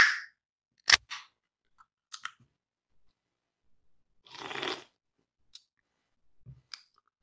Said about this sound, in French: et votre bière? Ah oui, je vais l'ouvrir.